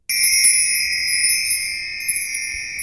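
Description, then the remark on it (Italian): A bright, high-pitched magic chime, the sound of magic dust thrown into the air in a telling of the story of Aladdin, rings out at once and holds as one steady shimmering tone for about three seconds, fairly loud, with no voices. “Quando ha cominciato a parlare, ha gettato in aria una polvere magica che faceva questo suono.”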